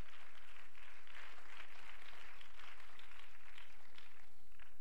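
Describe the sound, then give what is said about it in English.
A church audience claps its hands together in praise to God in a steady, dense patter that holds for about five seconds, with no voices heard over it. “Let's clap our hands and give praise to Him right now.”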